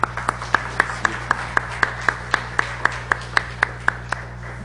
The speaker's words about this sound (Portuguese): Uma salva de palmas aí.